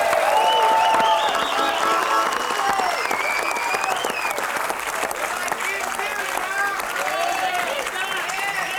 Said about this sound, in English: Let's give them a good hand.